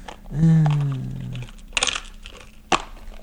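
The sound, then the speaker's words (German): A short hummed tone, then a special die rattles briefly in a small dice box as it is rolled to pick a winner, a quick cluster of hard clicks followed by a single sharp clack, moderately loud. “Warte mal, jetzt habe ich den falschen Würfel rausgeholt. Ich brauche doch meinen Spezialwürfel.”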